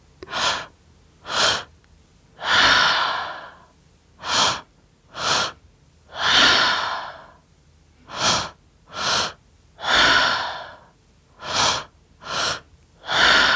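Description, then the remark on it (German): Deep, rhythmic breathing exercise demonstrated by an instructor: quick sharp inhales alternate with longer, forceful exhales in a steady, paced cycle, about a dozen breaths with no talking. “Und weiter atmen.”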